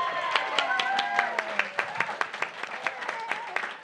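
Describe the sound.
An audience applauds steadily as a comedy writer and performer is introduced, claps landing in a quick, dense patter, with voices whooping and cheering over them early on before the clapping carries on alone.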